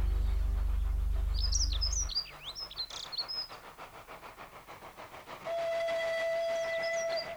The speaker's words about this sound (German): Das erste, was Justus, Peter und Bob von der alten Dampflok zu sehen bekamen, war die weiße Wolke, die hinter den alten Häusern auftauchte und sich den Schienen folgend in einer weiten Kurve auf den Bahnhof zuschob.